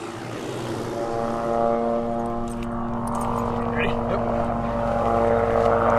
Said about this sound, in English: That buzz you hear in the background is a small blue and yellow helicopter that's about ready to take off. It's the method of capture for gathering the mule deer out of this area in the Piance Basin.